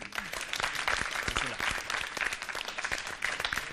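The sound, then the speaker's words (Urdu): An audience claps steadily and loudly for several seconds to encourage Team A after its choice in a contest, a dense crackle of many hands that holds an even level throughout with a slight swell near the end. “Team اے نے انتخاب کیا ہے اس ظرف کا, ان کی حوصلہ افزائی ہو جائے زوردار تالیوں کے ذریعے.”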